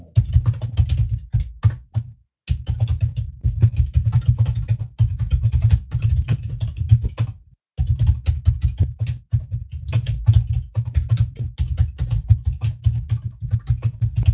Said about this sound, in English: I'm a decent typer of speed, but I pound this keyboard to death.